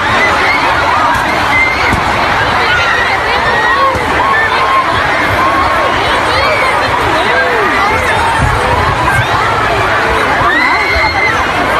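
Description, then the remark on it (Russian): A panicked concert crowd in a hall in Manchester after a terrorist bomb explosion, people trying to leave the hall, makes a loud, continuous roar of overlapping shouts and frantic voices, with high-pitched screams repeatedly rising above the din throughout. “Значит, и вот вам звуки зала после взрыва.”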